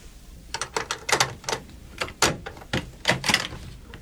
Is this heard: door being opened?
yes